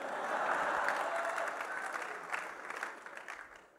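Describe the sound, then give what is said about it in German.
An audience claps steadily, a dense wash of many hands that holds level for a few seconds and then thins and fades out toward the end. “Wenn ihr zu viel klatscht, geht mir das von meiner Zeit weg.”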